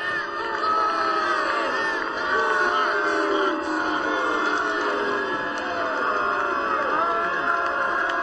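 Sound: crowd booing and chanting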